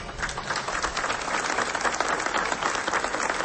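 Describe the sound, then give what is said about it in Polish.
Steady audience applause, a dense wash of many hands clapping at an even level for the whole stretch, with no voices rising above it. “Wielkie brawa.”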